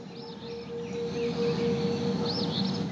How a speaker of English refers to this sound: When you first listen to this, you hear the sirens in the background, but you hear all the birds that are out there because you're in a wooded area. And then towards the end of this, then you hear the thunder coming in.